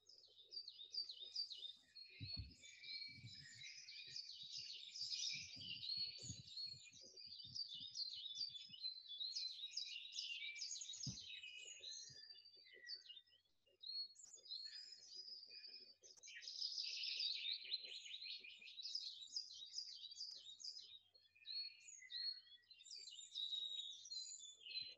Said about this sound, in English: in the comfort between the roots of the tree, leaning back against the tree and feeling that warmth on your body as you take a moment or two just to listen to the bird song and the country noises around about in that comfortable, deep relaxation.